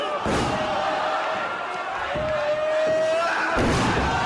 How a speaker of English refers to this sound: slammed face down on the mat again.